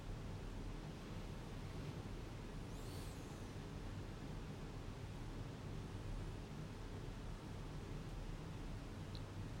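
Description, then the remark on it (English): A steady, soft wash of surf rolls on without pause, a broad hiss of waves on a shore with no distinct breaks standing out. No one speaks. “Breathing, enjoying the waves, the sounds, the warmth on your skin from the sun.”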